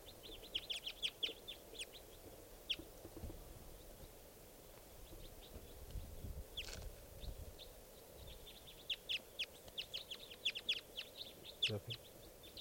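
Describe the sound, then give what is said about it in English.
A wild type 4 bird calls over and over in quick clusters of short, high-pitched chirps and peeps, some bursts sharp and prominent, with a low muffled rumble underneath. “And it sounds like there's a wild type 4 bird here somewhere.”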